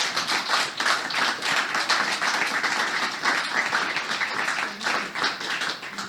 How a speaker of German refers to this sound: Noch ein Applaus und ein herzliches Willkommen bitte für Herrn Thumann.